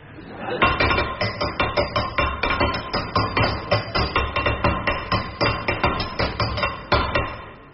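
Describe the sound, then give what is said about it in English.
A hammer bangs repeatedly on a metal tap that cannot be turned off, loud, striking in a fast, steady rhythm of roughly three blows a second for several seconds with no voices. “I can't turn this tap off, Henry. Give me the hammer.”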